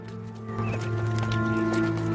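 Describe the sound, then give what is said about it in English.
Several horses ridden by a troop of soldiers move steadily side by side in a row over grass, their muffled hoofbeats thudding continuously beneath a sustained, humming tonal background. “The troop of soldiers ride over grass side by side in a row.”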